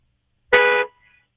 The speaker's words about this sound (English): Okay, stay stopped and just stay there. I don't hear anything. Hold your phone out the window so we can hear honks.